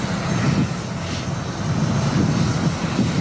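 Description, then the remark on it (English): The engines of the Patriots jet airplane roar steadily as it arrives on the tarmac, a continuous broad rumble with a deep low-end drone and slight swells in loudness, with no voices. “He revels in the moment the Patriots jet arrives on the tarmac.”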